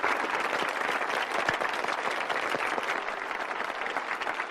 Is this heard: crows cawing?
no